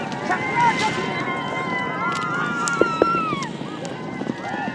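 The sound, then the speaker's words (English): Horses galloping at the start line of a large horse race on the Mongolian plains while child jockeys whoop and shout in rising, wavering calls over a steady rumble of hooves and wind, with a couple of sharp knocks partway through. “At the start line, the jockeys whooped as they began to gallop.”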